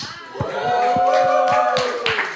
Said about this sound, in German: Ja, da ist, also ihr hört, da ist noch Platz. Ja? Der Applaus ist noch akademisch.